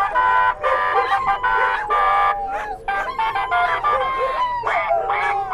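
A musical car horn on a dog walker's truck, which has steer horns bolted to its top, blares a loud, brassy melody to excite the dogs, a run of sustained tones that step up and down in pitch with short breaks between phrases, lasting throughout.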